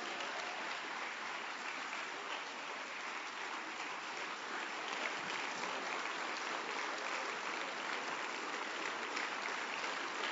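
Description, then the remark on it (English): Sustained applause from a standing church audience clapping unto the Lord, a steady dense wash of many hands clapping at once with no pauses, holding an even, fairly loud level for the whole stretch. “Stand up and clap unto the Lord.”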